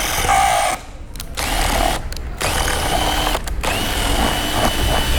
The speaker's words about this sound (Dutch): Met een boor wordt een gaatje gemaakt in het kunststof en er gaat vervolgens een schroefje in.